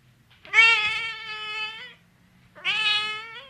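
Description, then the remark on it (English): A cat lets out two long, drawn-out meows, the first lasting over a second and the second following after a short pause, with a faint low rumble underneath. “See what I did there? Meow. Oh, meow.”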